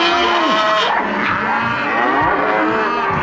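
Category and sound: animal, cattle mooing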